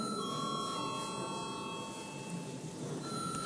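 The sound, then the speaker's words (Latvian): A parliamentary bell rings to call a vote on a bill in its second reading, a steady, continuous electronic tone for several seconds, moderately loud, with a faint hum beneath and no voices. “Paldies, lūdzu zvanu.”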